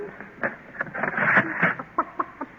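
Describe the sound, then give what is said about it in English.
A chicken named Sarah clucks in a quick, uneven series of short, nasal bursts, with one longer squawking stretch in the middle and no talking over it. “In the safe, top rosin, I'm concealing one chicken.”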